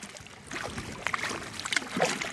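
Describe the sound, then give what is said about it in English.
Paddle strokes splash and swish through the water of the Rio Grande, between Texas and Tamaulipas, Mexico, as a big orange plastic kayak moves along, with soft dripping and gurgling between strokes and a light breeze underneath; no one speaks. “I'm paddling a big orange plastic kayak in the middle of the Rio Grande.”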